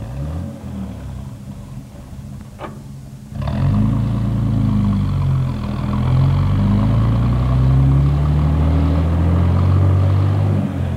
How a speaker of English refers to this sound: Well, we better get this bus rolling, because it's getting close to pickup time. Okay, fellas. Take off.